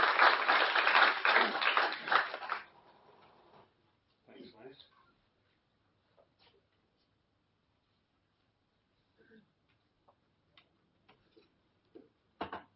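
An audience bursts into loud, dense applause for a couple of seconds, welcoming a speaker for a 10-minute talk, then it quickly thins and dies away, leaving near silence broken by a few faint, scattered knocks and shuffles.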